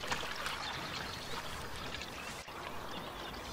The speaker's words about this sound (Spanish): se queda inmóvil en el lado posterior, mirando a Juan de Endor. El cual, amablemente, está sacando agua de un pozo para ofrecérsela a Salomé, que está muy atareada.